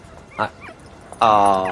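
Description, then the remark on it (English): A Great Dane puppy named Ziggy gives a short yip, then a couple of soft squeaky whimpers, followed by a louder, drawn-out high whine, with no talking. “This is a Great Dane, aren't you?”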